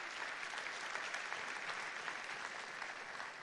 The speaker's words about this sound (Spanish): Pueden darle un aplauso.